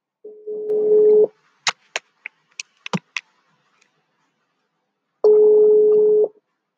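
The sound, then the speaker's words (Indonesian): A steady telephone dial tone hums for about a second, then a quick series of sharp dialing beeps, and after a pause another long, even tone sounds as the call connects. No voices. “Coba kita telepon.”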